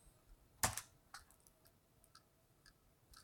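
Keys on a computer keyboard are pressed, starting with two sharp, loud clicks close together, then a handful of softer, scattered taps at irregular intervals in a quiet room.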